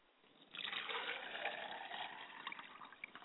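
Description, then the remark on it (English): Water is poured from a glass onto the ground as a libation toward the west, in a steady splashing stream for a few seconds, starting abruptly after a short quiet moment and trailing off in small drips and splatters. “I pour libations to the west, and I say, Ashe.”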